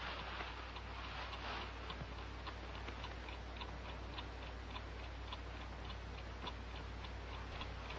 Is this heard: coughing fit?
no